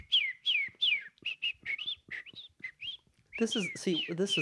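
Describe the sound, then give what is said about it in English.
A person whistles an imitation of birdsong: a quick run of short, sliding chirps and tweets, fairly loud, ending in a fuller, voiced warble during the last second. “That's a really good bird sound.”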